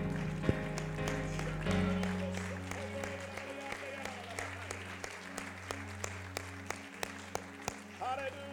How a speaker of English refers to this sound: Come on, would you give the Lord a hand clap of praise right now?